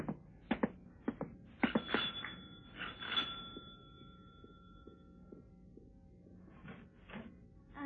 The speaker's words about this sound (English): I thought I'd take a walk to Hyde Park and was leaving my room to go downstairs when the front doorbell rang.